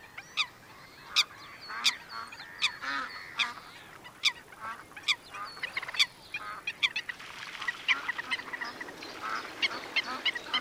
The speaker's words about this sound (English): A cheeping small black goose with a white beak, ruffling its feathers, comes swimming from among the reeds and mixes under the ducks.